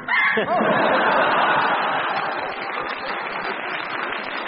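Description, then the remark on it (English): A person imitates a chicken, clucking and squawking loudly in a steady, unbroken run of several seconds, with no other talk. “And can you do a chicken for the boys and girls? I can do a better chicken.”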